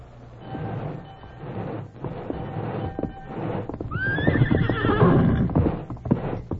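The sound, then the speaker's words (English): A horse named Silver whinnies loudly, a rising-then-falling neigh, while hooves clip-clop steadily beneath it amid a rumbling, clattering background of a passing train. “Steady, Silver. Steady, boy.”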